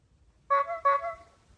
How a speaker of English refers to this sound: Trying out Tesla's new lock sounds. Old school horn. Applause. Goat. Quack. Chirp. Clown horn.